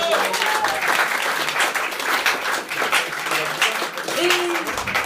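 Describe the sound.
A crowd applauds steadily for about five seconds for a woman who answered the last question well, dense overlapping claps at a fairly loud, even level, with faint voices murmuring underneath.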